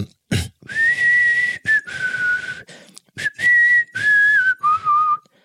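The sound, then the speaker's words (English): A person whistles a slow melody, clear sustained notes in several short phrases separated by brief pauses, with a quick breathy burst just before the tune begins. “there's also, you got …. It's a classic whistle.”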